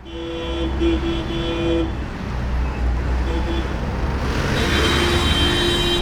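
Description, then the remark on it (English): Busy city street traffic in Dublin city centre during Monday evening rush hour, just after 6:10, rumbles steadily while car horns blare in long, sustained honks, first near the start and again toward the end, with engine noise filling the background throughout. “Just gone 6:10 here in Dublin City Centre on Monday evening.”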